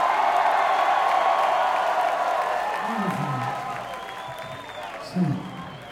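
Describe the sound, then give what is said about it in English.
Steady, dense applause from a large crowd with scattered cheers for the opening acts on a tour, gradually fading, while a voice speaks briefly over the tail of the clapping. “Big round of applause.”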